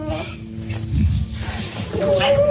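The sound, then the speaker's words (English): A dog whines and yelps excitedly as a healthcare worker comes home after over nine weeks away, its high, wavering cries rising into a sustained squeal toward the end, amid a busy background of voices and commotion. “Even the dog gets in on it.”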